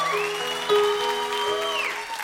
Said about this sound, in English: Or maybe I don't, because maybe I couldn't hear because you guys clapped, which is awesome.